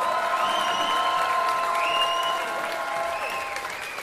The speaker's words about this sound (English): So, ladies and gentlemen, a huge round of applause, please, for the …!